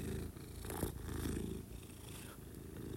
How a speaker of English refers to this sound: This episode features a special guest, Milo, whose purrs you might be able to hear.